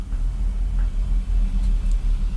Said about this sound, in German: Ein dicker LKW fährt vorbei in unserem Studio, das eigentlich unser Schlafzimmer ist.